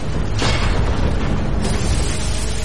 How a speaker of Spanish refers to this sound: A los pocos minutos, varias cargas de profundidad persiguen al submarino. Inmersión, 45 metros. Gilmore ordena sumergir aún más el Growler. Pero las explosiones continúan.